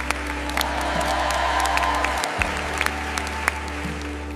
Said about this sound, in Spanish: Un aplauso resuena en todo el templo.